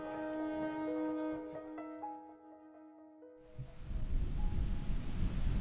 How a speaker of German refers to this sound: Guten Morgen, der Wind ist zurück, der Himmel bedeckt, aber es ist warm.